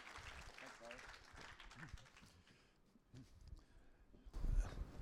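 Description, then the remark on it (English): An audience claps in a steady, crackling wash of applause for a man about to give his testimony, with voices and murmuring mixed in, swelling louder near the end. “So hey, give him another good round of applause.”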